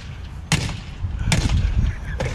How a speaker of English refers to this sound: There's a lady in Miami who just decided to attack a Range Rover with a hammer.